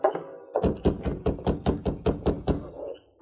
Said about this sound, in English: They approached the Dawson Ranch and saw lights in every window of the low building. They reined up, dismounted, and rapped on the door.